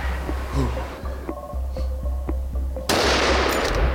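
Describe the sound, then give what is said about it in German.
A single loud rifle shot cracks out near the end during a driven hunt, fired at a young wild boar that tumbled at the shot; its broad roar lingers over a low steady hum and a few soft clicks outdoors beforehand. “Und jetzt kam hier der Überläufer Keiler und der hat sich sogar im Schuss überschlagen.”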